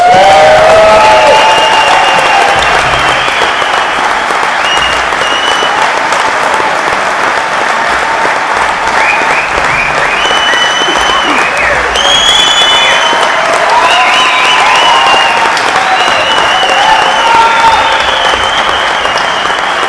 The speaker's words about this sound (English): So let's warm her up with a big applause.